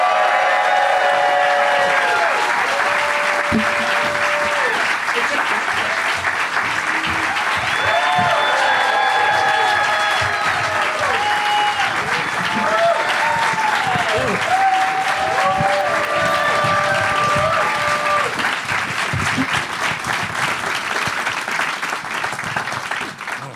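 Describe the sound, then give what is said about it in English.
A crowd applauds loudly and steadily for over twenty seconds as Kumail Nanjiani, Michael Hitchcock, Ricky Lindholm and Zach Galifianakis are brought out, with scattered whoops and high cheers rising above the clapping before it eases slightly at the end. “Let's get them out here. Give it up, everybody, for Kumail Nanjiani, Michael Hitchcock, Ricky Lindholm, and Zach Galifianakis.”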